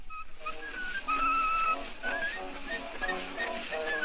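A bright whistled melody of short and sustained notes rises and falls over a steady hiss, as in an old scratchy recording, with accompaniment faintly beneath it.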